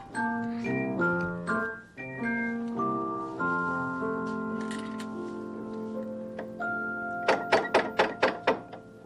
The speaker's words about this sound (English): Somebody knocking?